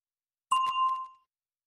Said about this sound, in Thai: A question for you. So, รอฟังเสียงกระดิ่งก่อนจะตอบ